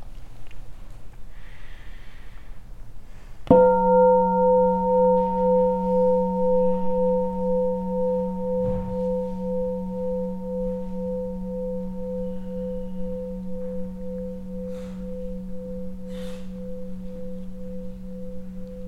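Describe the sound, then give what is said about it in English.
A meditation bell is struck once and rings out with a low, pulsing hum that sustains and slowly fades for about fifteen seconds over a quiet background, with no talking. “Can we have a bell?”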